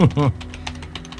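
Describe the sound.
A brief voiced sound opens, then quick, light keystrokes tap at an uneven pace on a computer keyboard, moderately quiet, several clicks in about a second.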